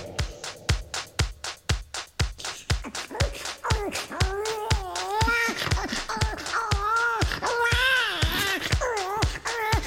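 A steady, thumping pop dance beat plays in a comedy cover version, and after a few seconds a high, wavering baby-like wail rises over it, crying for "teta" in long pitched sobs in time with the music.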